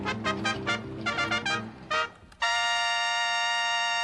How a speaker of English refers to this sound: This is a bell for Henrietta. That's right, F sharp, but this one's a lot louder than Henrietta's tiny bell.